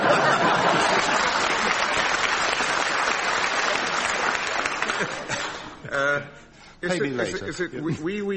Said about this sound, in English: It sounds like chamber music. I can remember a time when a chap would have got applause for that.